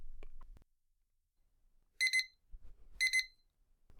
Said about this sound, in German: Der Wecker schon wieder. Mist, jetzt muss ich aber raus.